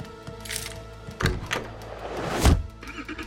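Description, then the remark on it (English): A car door shuts with a solid thunk, followed by a second heavy thump, over a steady low engine hum as a woman's car pulls away. “Her car pulls away.”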